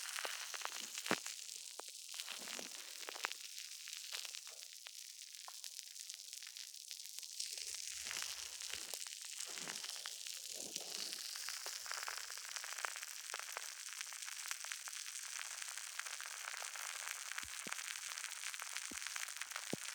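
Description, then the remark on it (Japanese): Soap lather foams and fizzes right against the ear as a well-lathering soap quickly covers the ear in foam, a steady bed of fine, crisp crackling and popping bubbles with scattered sharper clicks, continuous and fairly soft, with no voices. “にしても、この石鹸、泡立ちいいな。あっという間にご主人様の耳に泡だらけ。”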